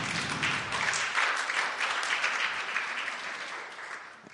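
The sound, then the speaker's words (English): A church audience claps steadily for a few seconds to welcome a visiting pastor and his wife, a dense, bright patter of many hands with no voices breaking through, tapering slightly toward the end. “Can we give them a clap offering?”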